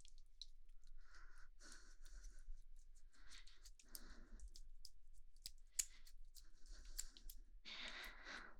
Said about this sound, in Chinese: 呼吸声好重，别紧张，没关系